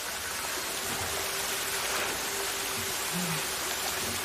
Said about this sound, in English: Water continues to fall at a steady rate, collecting on the floor. Drops splash into a glass bowl.